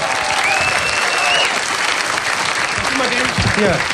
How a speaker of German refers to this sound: Kommst du auf die Bühne? Applaus mal